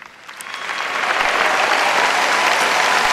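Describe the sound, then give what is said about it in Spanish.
A crowd bursts into applause for the priests who graduated from the Seminario Mayor San José and the seminarians present, the clapping swelling over the first second into a loud, steady wash of many hands that holds without any voices. “Y a todos ustedes los invito a darles un fuerte aplauso.”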